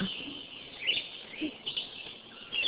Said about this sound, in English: There's a red-eyed vireo behind me. They're really common.